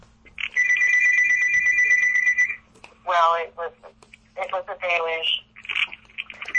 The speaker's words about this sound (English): What is that noise? Sounds like your alarm's going off. It's my landline. Oh. you actually have a landline? My family does.